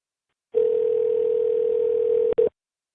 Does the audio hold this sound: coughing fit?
no